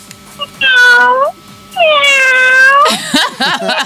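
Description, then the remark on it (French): A person imitates a sick cat with two long, whiny meows, the second drawn out and wavering, loud, followed by a few short strained vocal noises. “Fais-moi le bruit d'un chat malade,”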